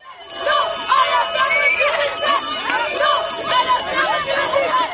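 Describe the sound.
Many sheep bells clank and jangle continuously in an irregular, overlapping rhythm, fairly loud, over a steady hubbub of a crowd with indistinct voices.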